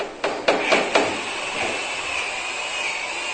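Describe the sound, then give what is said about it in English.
Four quick, sharp hammer blows in a steady rhythm ring out, followed by continuous rasping, hissy sawing with a faint high whine, from construction workers building a house, with no voices. “Somebody's sawing. Those are construction workers.”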